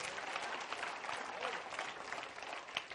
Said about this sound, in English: Come on, give him a great clap offering, would you? Come on.